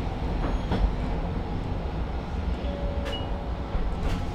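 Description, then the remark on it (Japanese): A train or tram, the 16:53 service bound for Toyohashi Ekimae (Toyohashi Station) in Toyohashi, Japan, rumbles steadily along the rails, with dense low-frequency roar, occasional sharp clanks and a brief metallic squeal, with no talking. “この電車は豊橋駅前行きです。”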